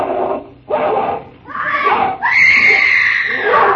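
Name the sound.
woman screaming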